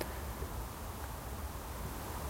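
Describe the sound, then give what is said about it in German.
A steady, faint wash of motorway traffic: a continuous low rumble with a soft hiss on top, unchanging throughout, with no voices or distinct events. “Hört man die Autobahn.”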